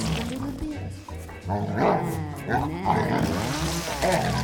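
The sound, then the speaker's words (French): A large Doberman dog barks and growls continuously for several seconds, a dense, rough stream of low snarls and sharp yelps at fairly steady loudness. “Le dernier son, celui d'un aboiement.”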